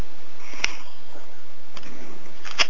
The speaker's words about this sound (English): And we're going to tune in. Okay, so long, deep breathing.